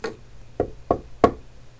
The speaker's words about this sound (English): Abraxas knocked on the outer door of her study.